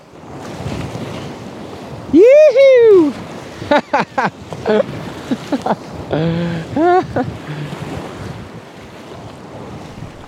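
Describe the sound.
Rushing whitewater from modest rapids roars steadily around a kayak, sending water slamming overhead and puddling in the spray skirt, with wind buffeting the microphone, while a person whoops and shouts excitedly over the churning splashes.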